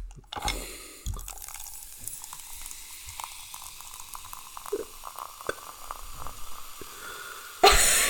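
Liquid is poured into a glass in a steady, fizzy stream, with bubbling, trickling and small drips. A couple of faint clinks come near the start, and a louder burst of noise ends it.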